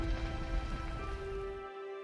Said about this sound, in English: The flames hiss and dance against the darkness, fed by invisible gas rising from deep within the earth. For more than 2,500 years, these flames have never died.